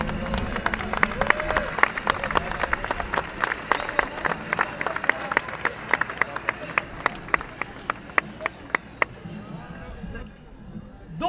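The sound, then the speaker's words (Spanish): An audience applauds warmly to welcome members of the Comité 68, the dense clapping gradually thinning into a few scattered, sharper claps before fading out, with a murmur of crowd voices underneath. “por favor recibamos con un aplauso a los miembros del Comité 68”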